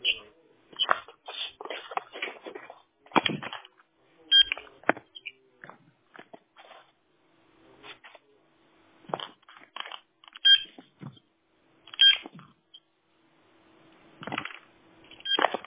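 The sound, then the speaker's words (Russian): Clatter and clicks of a landline handset being picked up and handled to check whether the line works after an equipment reboot, with scattered keypad presses and a faint steady dial tone in the background at times. “Вы не отключайтесь, у меня рядом телефон, я сейчас проверю.”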